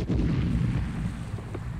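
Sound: cannon firing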